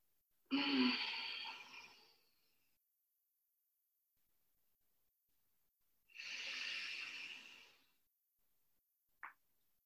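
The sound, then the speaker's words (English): Two slow, deep breaths in and out through the nose during a stretching exercise, each a long airy rush lasting about two seconds with a pause between, followed by a brief faint click near the end. Fairly loud, no talking. “And so as we breathe in, let's stretch up.”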